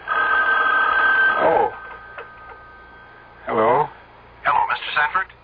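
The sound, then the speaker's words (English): A telephone bell rings loudly and steadily for about a second and a half with a call from a sanitarium, then cuts off; after a quiet pause, a couple of short bursts of speech follow. “The phone.”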